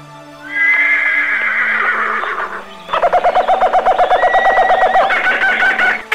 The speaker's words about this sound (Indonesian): Dia mendengar suara meringki tiada henti.